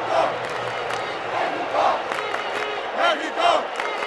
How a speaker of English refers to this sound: As the crowd screamed, "Mexico, Mexico," a small section in the far upper reaches of the stadium tried to keep up.